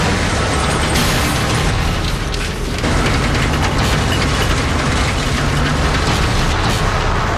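A loud, sustained roar of heavy rumbling and clattering as the weight of a heavy haul load deals a crushing blow to a truck trailer and a tire is lost, with deep booming noise filling the whole stretch and no voices.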